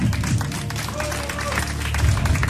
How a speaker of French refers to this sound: Bonne réponse, on applaudit.